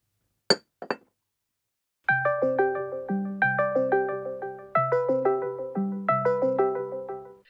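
Two quick clicks, then a doorbell chime, rung by a guest arriving, plays a bright, ringing melody of overlapping tones that repeats several times, each note decaying as the next sounds, fairly loud and with no talking.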